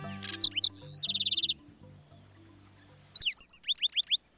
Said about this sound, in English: Singing from atop a cactus, a handsome bird greets the new day. It's a black-throated sparrow, an iconic desert denizen of the southwestern U.S. and northern Mexico.